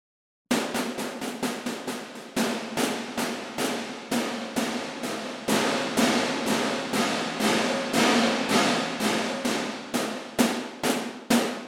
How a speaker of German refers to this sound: Also das ist ein Mixregler und da können wir schon sehen, dass und hören, dass der wirklich langsam den Hall reinfährt. Welcher Hall das ist, kann man ändern, kommen wir gleich noch drauf.